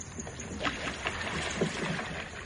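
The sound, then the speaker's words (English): Oars dipping and pulling through water as a boat is rowed, with soft splashes and sloshing in an irregular rhythm, fairly quiet, with no voices. “If you want to swim for it, I can handle the boat. I've got my carbine. Shut up and row.”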